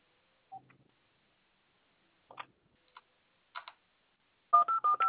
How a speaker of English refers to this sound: I don't know. Let me see if I can make a phone call. Okay.